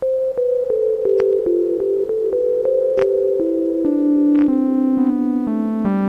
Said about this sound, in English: I'm going to set that to reverb, because actually the basic simple sound sounds very nice with reverb on it.